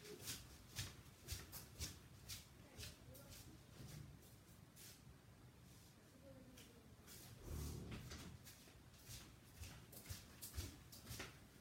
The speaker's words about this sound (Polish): Czekajcie, pójdę im zamknąć te drzwi, bo po prostu nie dam rady.